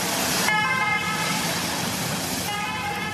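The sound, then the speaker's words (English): An old ambulance klaxon blares loudly and steadily, its harsh horn tone switching pitch in a two-note pattern, with no talking over it, as the ambulance goes down a mountain during the Tour de France. “With the old diddle-da, klaxon on the old ambulance, gone down the mountain, finished.”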